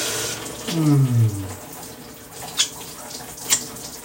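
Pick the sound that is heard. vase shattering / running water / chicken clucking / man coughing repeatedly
running water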